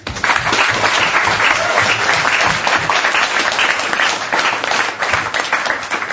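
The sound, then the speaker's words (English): A crowd applauds steadily for about six seconds, a dense, loud wash of many hands clapping at once with no pauses and no one speaking. “So, have a big round of applause.”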